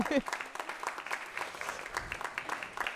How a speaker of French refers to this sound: Un grand grand merci au master image et son de l'UBO. Allez, on va applaudir. Merci à eux, c'est vraiment super.